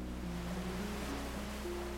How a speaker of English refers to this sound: Stay here for a few moments, simply resting on the beach. the sand support you. Let the waves settle you.